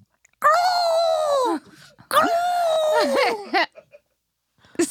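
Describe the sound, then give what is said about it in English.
A person imitates an ostrich call with two long, strained, whining cries, each about a second long and bending in pitch, followed by a few short trailing yelps, loud. “An ostrich, I think, goes.”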